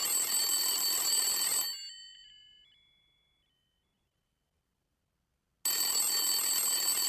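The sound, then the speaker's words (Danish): An old-fashioned telephone bell rings loudly in two bursts separated by a few seconds of silence, as a caller phones in to a quiz, the first ring trailing off with a fading metallic shimmer before the second begins. “Ring ind nu og svar, og vind en halv million kroner.”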